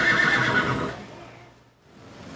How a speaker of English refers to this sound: Probably hear that clipping. That's the workhorses. They're exercising them. They show today. The Belgians do.